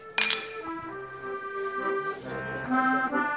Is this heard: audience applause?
no